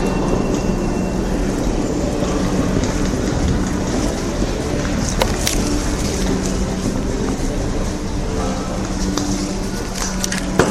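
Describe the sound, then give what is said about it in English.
A loud, steady roar fills an underground subway station as a train rumbles, with deep low-end rumble, hissing noise and occasional metallic clicks throughout. “But then at the subway station, it's definitely not.”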